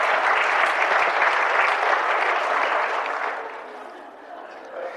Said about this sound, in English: He claps. He had everybody singing and clapping. A whole conference of reformed people doing that.